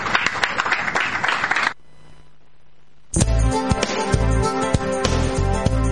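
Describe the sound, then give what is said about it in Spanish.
A loud burst of crowd applause lasts under two seconds, breaks into a brief near-silence, then gives way to upbeat music with a heavy bass beat. “Un aplauso, por favor.”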